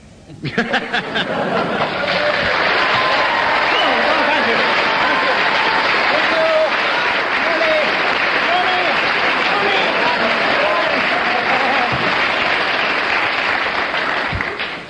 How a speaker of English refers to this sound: I'm going to ask the audience to show approval by their applause, and we'll judge on the audience applause before I take the marks off.